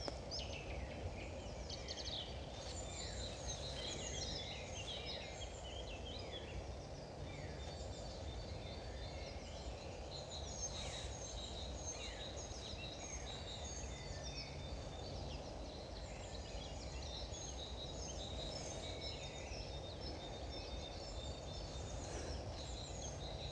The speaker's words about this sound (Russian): Вы слышите птиц? Я сижу в лесу на рассвете. Не то, что в лесу, в небольшой роще здесь. И солнце должно выйти из-за горизонта через несколько минут.